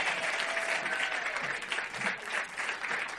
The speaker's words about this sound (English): You've already met her, and she owns this company, Light Hustler, and she's a New York Times bestselling author, and she does all sorts of stuff on TV, so big round of applause for, that's her name right there, Anna David.